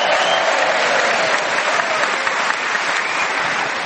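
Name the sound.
audience round of applause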